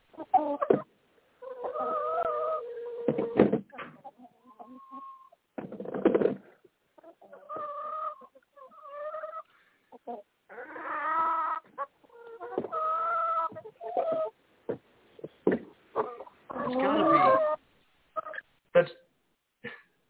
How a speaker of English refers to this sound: Was that a chicken?